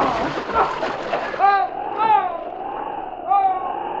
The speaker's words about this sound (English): for the ice beneath his feet was giving away. No! He plunged into the icy water.